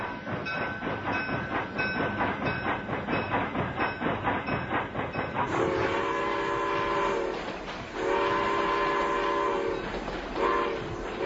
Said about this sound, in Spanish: Y escuchamos el sonido del ferrocarril porque está corriendo por estas horas, ya lo hizo esta mañana, lo va a seguir dentro de un ratito nada más, una locomotora a vapor del año 1910 que está haciendo Montevideo-Peñarol-Peñarol-Montevideo.